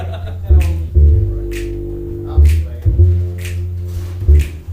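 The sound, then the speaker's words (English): Crisp finger snaps click out a steady beat about once a second, sitting clearly on top of a warm, bass-heavy musical accompaniment with no voices. “Come on, everybody, snap your fingers.”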